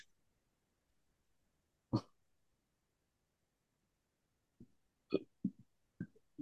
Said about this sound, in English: And you belch all you want. Don't be shy. That's definitely part of the healing when you're doing that block work.